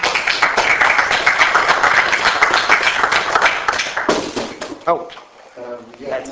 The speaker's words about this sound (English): Okay. I think you should give him an applause.